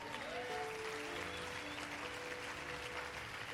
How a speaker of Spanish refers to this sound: Bueno, pero vamos a seguir. Vamos a dar un aplauso al Señor.